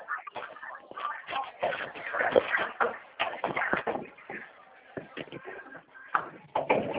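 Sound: front door being locked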